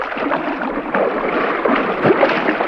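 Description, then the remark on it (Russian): Water churns and splashes steadily for a few seconds, fairly loud, as a boatswain jumps into the water without an aqualung, with a slightly stronger surge of splashing near the end. No voices are heard. “Бухта прыгнул в воду.”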